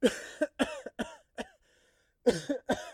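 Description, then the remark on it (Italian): A run of short, forced coughs, several in quick succession, then a brief pause before another cluster of coughs. No one speaks. “Contatta semplicemente lo sforzo di tossire.”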